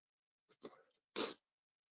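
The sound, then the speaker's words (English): A single loud sneeze during a webinar: a short catch and a drawn-in breath, then a sharp, explosive burst that cuts off quickly into silence. “All of a sudden, I start my webinar, I sneeze and my nose starts running.”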